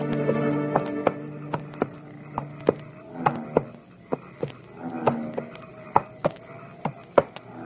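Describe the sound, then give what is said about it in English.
A horse's hooves clop along a wooded road in a slow, slightly uneven plodding rhythm, each step a sharp, clear knock, over a steady low droning hum. No one speaks. “And as his horse plodded through the woody road, the road of the headless horseman, he began to hear sights and sounds.”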